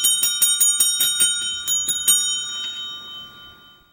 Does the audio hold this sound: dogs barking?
no